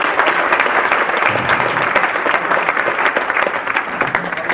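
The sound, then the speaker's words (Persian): An audience claps steadily for several seconds for a person invited up by the speaker, a dense, even patter of many hands at a fairly loud level, with no voices standing out. “مرسی، مرسی، تشویقش کن.”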